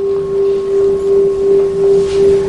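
A large temple bell rings on with a deep, steady hum and a faint higher overtone, its loudness swelling and fading in slow pulses as the tone lingers. No one speaks.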